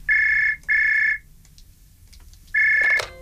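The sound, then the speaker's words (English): An old telephone rings in a steady, high-pitched tone: two short bursts in quick succession, a pause, then another burst that cuts off. The ringing is loud and there is no talking. “That's the kind of phone she had, isn't it?”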